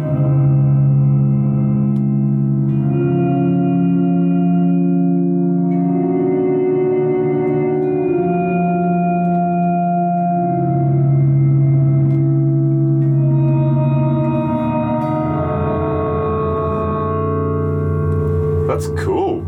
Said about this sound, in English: So what is this? What is this? Is that like a reverb? I don't know what that is. Enverb. Is that what it is? Yeah, enverb. Oh, yeah, cool. Envelope verb.